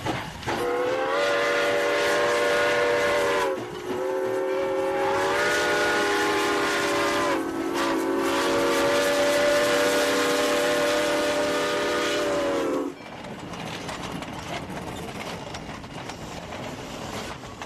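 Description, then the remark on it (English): The Boone Welcome Train rumbles along while its whistle sounds three long, loud blasts in quick succession; the whistle then stops, leaving just the steady rolling clatter of the cars. “we've just heard about the Boone Welcome Train”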